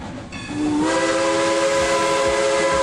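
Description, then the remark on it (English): A steam locomotive whistle of the Cumbres and Toltec Scenic Railroad, which runs from Antonito, Colorado over the San Juan Mountains, sounds loud, a sustained chord-like blast rising into a steady tone over a broad rushing hiss of steam, with no voices. “Climb aboard the Cumbres and Toltec Scenic Railroad.”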